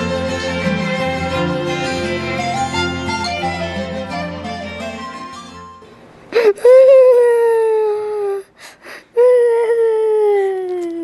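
child crying and whimpering

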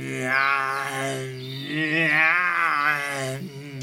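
tiger roaring

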